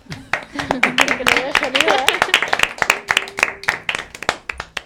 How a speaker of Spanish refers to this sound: Oh, aplausos.